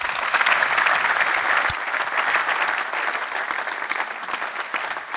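An audience of about 150 guests at the main event of the Business Circle event in the BMW-Park claps steadily and loudly for several seconds, a dense wash of many hands with no voices on top, fading slightly toward the end.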